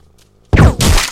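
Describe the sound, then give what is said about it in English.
After a brief quiet moment, two loud, punchy bursts of video game gunfire from another player ring out back to back, booming with no talking. “Speaking of firing, it looks like someone else is doing some of that.”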